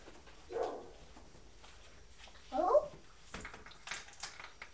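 A young voice imitates a dog barking with two separate woof-like yelps, about two seconds apart, followed by softer, brief vocal noises and light background clatter.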